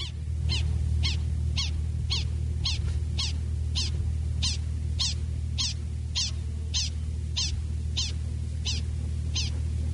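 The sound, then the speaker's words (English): A prairie dog's alarm call for a domestic dog: a steady, rapid series of about seventeen sharp, high-pitched chirps, evenly spaced, over a constant low rumble. “We're going to hear calls for a domestic dog.”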